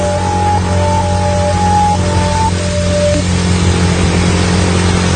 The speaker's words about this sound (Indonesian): Aku ngegas. Motorku malah membuat suara knalpot yang terasa memang motorku ini berat. Padahal jalanan saat itu tidak menanjak.